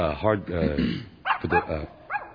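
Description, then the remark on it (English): A dog vocalizes: a drawn-out, throaty growl-like whine followed by a few short, sharp barks in quick succession. “We'll attend to the dog later.”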